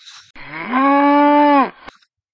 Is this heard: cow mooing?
yes